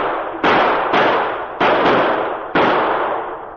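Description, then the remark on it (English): Five sharp, loud gunshots from a Mountie's gun fire in quick, uneven succession at a charging bull moose, each a hard crack with a long rumbling decay that carries into the next. No one speaks. “and as the bull moose turned aside with lowered antlers to lunge at King, the Mountie's gun barked.”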